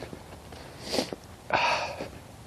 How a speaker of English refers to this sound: So sniff, sniff, snort, snort.